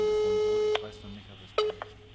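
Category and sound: signal or alarm, telephone call ringing tone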